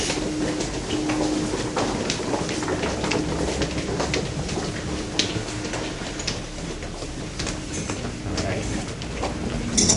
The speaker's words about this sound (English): A couple different train lines or subway lines have stops in this building. This is where the wind is all the time.